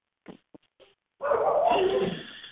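A dog barks in the background with three short, quick yaps, then lets out a louder, drawn-out whining bark lasting over a second, with no one talking.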